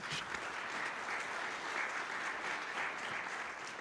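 Steady audience applause, a dense wash of many hands clapping at an even, sustained level for a few seconds with no break or voices on top.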